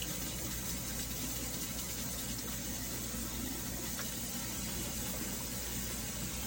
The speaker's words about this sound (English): what you're going to want to do is you're going to want to fill your sink with the hottest tap water you can get.